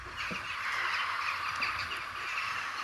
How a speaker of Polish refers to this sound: Słychać coś? Jakiś wielki ptasi rój. No, ogrom ptaków, po prostu słychać. Tak, i jako 6:30 pójdzie się właśnie, pojedzie się do Gdyni, czy pójdzie do Gdyni Chyloni, to słychać coś takiego.